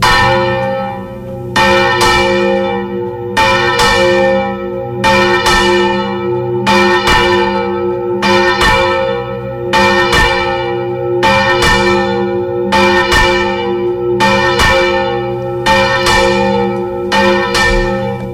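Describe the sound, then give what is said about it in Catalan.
A church bell tolls as was once done from the bell tower during thunder to ward off storms from the town: loud and steady, about eleven strikes at an even, unhurried pace, each clang ringing on and overlapping the next. No voices are heard. “I quan tronava, es pujava en el campanar i es feia un so semblant en aquest.”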